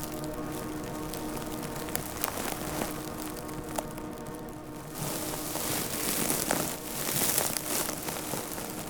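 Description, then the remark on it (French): Dense, dry crackling and ticking of completely dry, parched broom plants, a continuous stream of tiny snaps, with a louder breathy rush of wind passing through the broom branches swelling through the second half. “Ce bruit croustillant du gispette complètement sec et desséché.”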